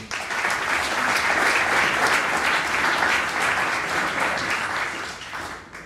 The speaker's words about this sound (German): Und deswegen freue ich mich ganz, ganz herzlich, ihn hier in Frankenberg begrüßen zu können und auch sicherlich einen mega spannenden Vortrag mit einem riesen Applaus heißen wir ihn hier willkommen,